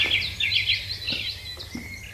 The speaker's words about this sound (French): Les premières lueurs, oui, c'est le matin. Et bizarrement, en Auvergne, comme vous pouvez l'entendre, puisqu'on n'a rien triché, il y a énormément d'oiseaux qui piaillent.